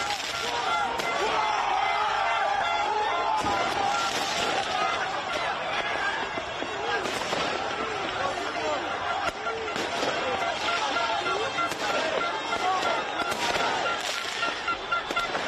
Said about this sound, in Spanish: Desbordada la alegría, petardos, bengalas, evidentemente incidentes. París vive una noche muy larga, la que va a vivir hoy la ciudad parisina.